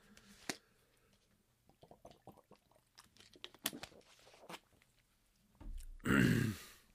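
drinking water

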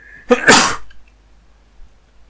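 sneeze

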